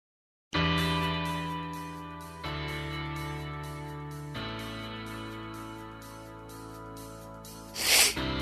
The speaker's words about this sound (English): Wait. You got to add that sniff. Oh, I know. Come on, one more time. There we go. This is sniff.